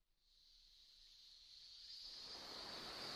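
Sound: ocean waves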